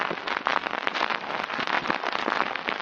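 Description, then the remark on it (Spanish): Steady, dense crackling and popping hiss of surface noise from a vinyl record fills the whole stretch at a moderate level with no voices. “El disco de vinilo.”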